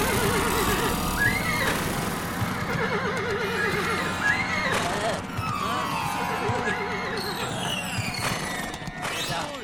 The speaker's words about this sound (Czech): Zřídilo je to tak ošklivě, že to dlouho nevydrželi, obrátili koně a tryskem se hnali zpět na zámek.